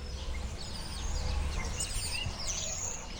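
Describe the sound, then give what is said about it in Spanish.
Several birds in a city chirp and trill in overlapping bursts over a steady low rumble of urban noise, the calls continuous throughout, with no one talking. “Los protagonistas de este episodio son los pájaros, que a pesar del bullicio urbano, siguen siendo notables sus cantos.”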